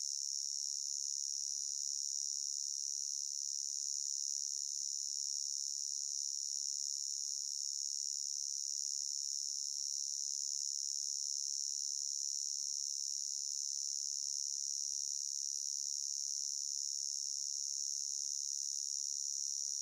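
A steady, high-pitched cricket chirping that continues without pause, a constant shrill trill at even loudness throughout, with no voices or other sounds.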